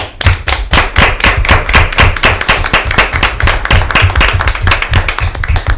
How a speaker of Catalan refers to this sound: Per això desitgem que us acolliu, que estigueu ben acollits a Catalunya, i que ara us mereixeu aquest aplaudiment.